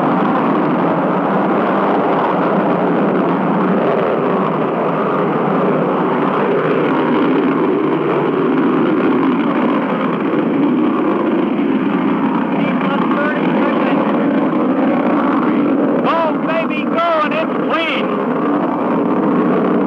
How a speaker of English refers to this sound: 0, ignition, liftoff. The MA-6 vehicle has lifted off. Trajectory looks good. The MA-6 vehicle has off the launch pad.